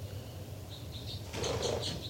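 A bird takes flight with a quick burst of flapping wings, a few short, high chirping pulses running through it over a steady low hum.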